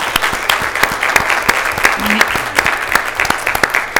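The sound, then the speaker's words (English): A crowd claps steadily for the school district being named the 2019 number one best school district in the state of Tennessee, a dense, continuous patter of many hands with sharp individual claps popping out, staying loud and even throughout. “So I think that deserves a round of applause as well.”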